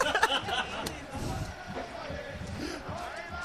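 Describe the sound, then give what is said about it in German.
A dense crowd of Turkish football fans roars, cheers and celebrates in a stadium, a continuous wash of many voices with occasional louder shouts rising out of the steady din. “Und die türkischen Fans, sie jubeln, sie feiern, sie rufen ihre Verwandten an.”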